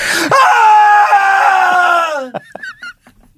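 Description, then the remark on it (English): A loud, piercing scream, a sound effect made for a Halloween series, held for about two seconds, its pitch sagging slightly before it breaks off into a few short, shaky vocal fragments. “Or like blood-curdling screams.”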